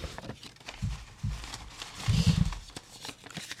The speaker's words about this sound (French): je vais tirer 4 papiers dans mon chapeau qui serviront du coup de thème pour la prochaine émission de Calvin Ball. Donc voilà, un papier, deux papiers, trois papiers, frouch frouch, toujours un merveilleux bruit d'ASMR, un quatrième truc.